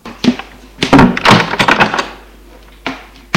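A door is pushed shut: a light knock, then a loud cluster of thumps and rattling clacks lasting about a second, followed by quiet and one last softer click at the end.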